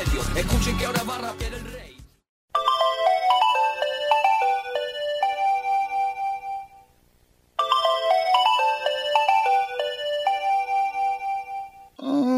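A melodic phone ringtone plays a bright, repeating tune of high electronic notes, pausing briefly and then starting the phrase again, loud and clear with no one talking over it.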